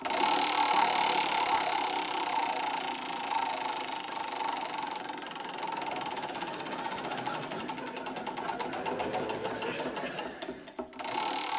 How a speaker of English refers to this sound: In this round, teams, I shall spin the wheel of history. And every time it alights on a date, I'd like you to provide me with a previously unreported historical event. OK, so let's give the wheel its first spin.